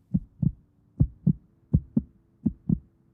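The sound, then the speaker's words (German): A faint heartbeat thumps steadily in paired lub-dub beats, four double pulses in a slow, even rhythm, low and muffled with no voices. “Der Patient befindet sich in kritischem Zustand. Herztöne schwach.”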